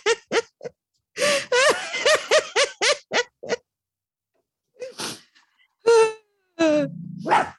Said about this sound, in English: The dogs are barking.